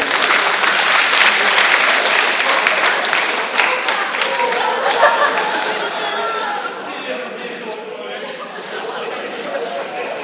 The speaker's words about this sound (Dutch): Even een applaus voor opa, jongens.